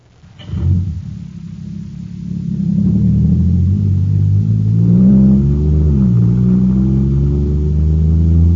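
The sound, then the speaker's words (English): A powerful engine of a jet cycle, just filled with super fuel and now supercharged, bursts to life and revs hard, its loud, steady roar climbing in pitch with a brief dip mid-way as it accelerates. No voices are heard. “Wow, this jet cycle is supercharged now.”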